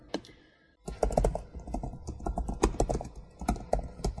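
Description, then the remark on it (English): Rapid, uneven clatter of keys on a computer keyboard as someone types a message, starting after a brief quiet pause and continuing in quick bursts of taps with no voices. “I will erase the message I was typing.”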